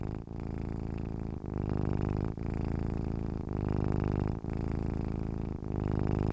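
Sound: cat purring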